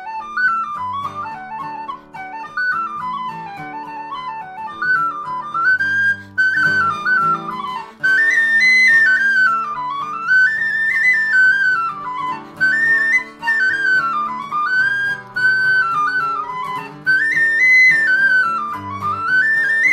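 A nine-year-old plays the piece Silver Spear on penny whistle, a quick, lilting reel melody with bright ornamented runs, backed by steady strummed guitar chords, fairly loud with no talking.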